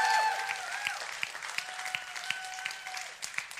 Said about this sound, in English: And more than anything, you really need to go nuts on this one because you're clapping for yourself and the person next to you. I love our 480 volunteers who make this place welcoming every single week.